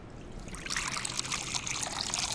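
Water is poured steadily into a saucepan to make a syrup, a continuous splashing rush that starts softly and swells after a moment, then keeps flowing to the end with no voices.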